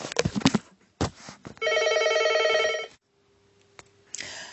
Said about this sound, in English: I guess you heard my phone. I apologize. I took it off the hook, so hopefully that will not happen again. That's what happens when you are recording at home.